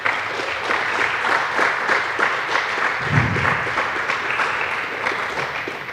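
Sustained audience applause welcoming a speaker, a dense wash of many hands clapping at a steady, fairly loud level for several seconds, with no one speaking over it.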